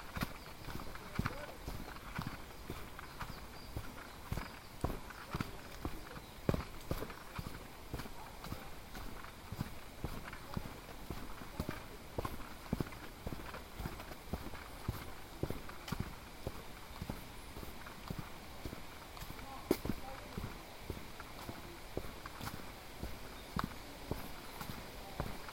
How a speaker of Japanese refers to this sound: ダイナミックですね。僕が歩いてるからこの音はダイナミックな、ね、すごい歩くというのはすごいことですね。